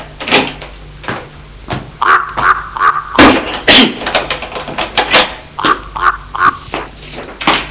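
household object, door opening

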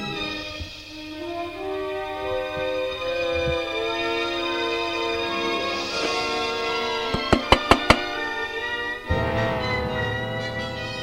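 household object, knocking on a door

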